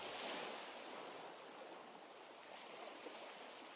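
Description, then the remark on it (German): A steady, broad rush of cool wind coming in over the open sea, mixed with the soft wash of surf, loud, swelling slightly at the start and then holding even with no voices. “Eine angenehme Wärme, wobei gerade der Kontrast mit der Kühle vom Wind, wo über die Weite vom Meer daherkommt, etwas Erfrischendes hat.”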